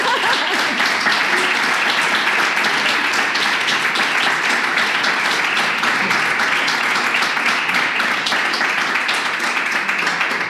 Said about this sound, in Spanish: Pues ya está, un aplauso para Nicolas Cage.